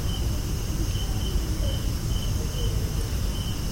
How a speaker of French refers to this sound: donc voilà, des orthoptères, bah pour ce que c'est des cons, hein, on va pas des cigales, des cons, des trucs genre.